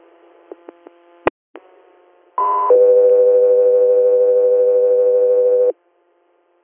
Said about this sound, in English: Guthrie Air, stand by for tones.